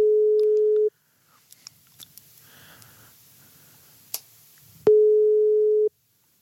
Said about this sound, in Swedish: Nej, nu får vi fan ta och ringa in. Ja, det, nu ringer vi.